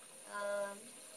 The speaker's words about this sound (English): Alright, I have the bath running.